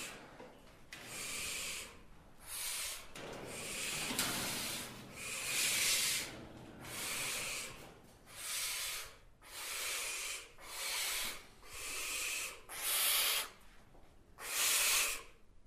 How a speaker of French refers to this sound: Ce qu'on entend, c'est... Le chantement, oui. Oui. Alors, c'est la voix des chouettes effraies. Elles n'ont pas de chant un peu plus sifflé ou flûté que peuvent avoir d'autres oiseaux, d'autres chouettes, d'ailleurs, d'autres espèces.